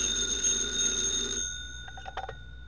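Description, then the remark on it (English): A telephone bell rings loudly at FBI headquarters in one sustained burst, then cuts off, followed by a few soft clicks and clunks like a receiver being lifted. “Tonight's FBI file continues at headquarters, where Special Agent in Charge Woods receives a phone call.”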